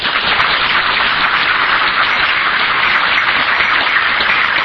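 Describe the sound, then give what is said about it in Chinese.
Sustained audience applause for Dr. Lin Zhijian, a dense, steady wash of many hands clapping at once, loud, holding at an even level for several seconds with no voices over it. “所以咱吼爱好即个林志坚林博士吼，一个温暖的掌声。”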